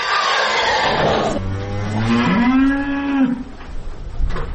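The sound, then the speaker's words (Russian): A cow gives a long, loud moo, its low drawn-out call rising and falling over a few seconds, with faint rustling and barn noise around it. It is on an agricultural college farm near Donetsk that was damaged by shelling. “Сотрудники агротехникума показывают ферму. Она тоже пострадала во время артобстрела. Там погибли лошади. Остальных животных перевели в другие хлева.”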